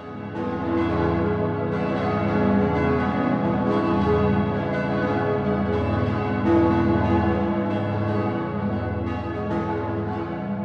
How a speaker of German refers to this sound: Und das hat seinen Grund, weil die Glocke eben, dadurch, dass sie zwar als Objekt dreidimensional dasteht, aber mit dem Klang praktisch in eine weitere Dimension verweist und damit die Transzendenz auch deutlich macht in der Religion.